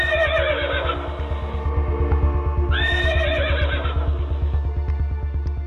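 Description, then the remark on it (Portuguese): A horse neighs loudly, with a shrill whinny at the start and another rising cry midway, over a steady, fast rhythmic thumping that runs throughout. “Os cavalos estão ficando cansados e os nossos episódios duram no máximo meia hora.”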